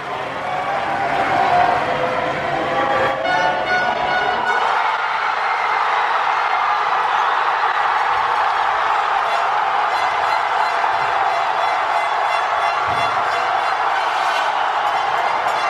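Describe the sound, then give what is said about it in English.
A dense, sustained roar of cheering from a whole city after France scored a goal, recorded with a microphone stuck out a window, with shouts and whistles blending into a continuous wash of noise that stays loud throughout. “And it, you can actually feel, listen really carefully, and you'll hear the depth of the sound of like how much the entire city is cheering.”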